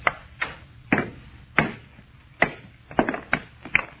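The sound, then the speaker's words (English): A hammer strikes a stone, a meteor of almost solid metal, about eight times at an uneven pace to break it along a fissure, each blow a sharp, fairly loud crack that dies away quickly, with no talking. “All I'm going to do is try and break it along this fissure. You had a hammer and a drill.”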